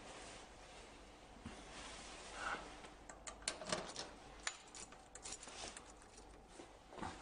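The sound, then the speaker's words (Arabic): Keys jangle softly as they are handed over, a cluster of light metallic clinks and rattles that picks up partway through and continues in small irregular bursts, with no voices. “المفاتيح لو سمحت.”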